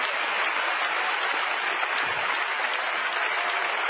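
A church audience claps hands together in a steady, dense wash of applause, loud and continuous throughout with no voices rising above it.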